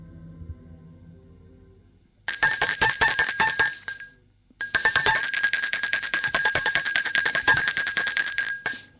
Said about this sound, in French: On a sonné à la porte.